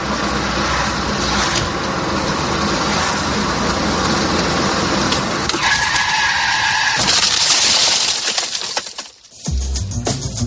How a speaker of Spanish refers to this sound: Impresiona, ¿verdad? Imposible evitar, porque es justo el momento en el que un coche que circula por una carretera convencional choca contra un jabalí. Algo fortuito, inesperado, muy peligroso y, por desgracia, cada vez más frecuente.